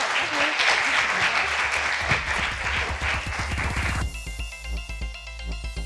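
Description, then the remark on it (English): An audience claps in a dense, steady burst of applause for a panel discussion on whole foods and supplements for about four seconds before it cuts abruptly to music. “So can I ask you to applaud the fantastic panel?”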